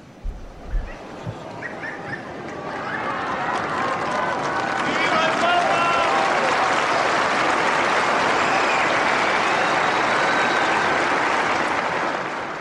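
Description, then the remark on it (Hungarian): A large crowd bursts into sustained applause at the end of the Wednesday morning general audience, following a Latin blessing, a dense wash of clapping that swells after a few seconds and holds steady, with faint voices mixed in. “Kedves hallgatóink, ezzel a köszönéssel, köszöntéssel és tapssal ér véget a mai szerda délelőtti általános kihallgatás.”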